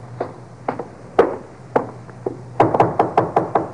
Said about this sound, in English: Let him knock again.